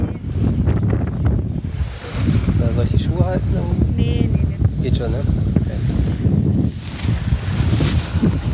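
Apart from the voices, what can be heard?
strong wind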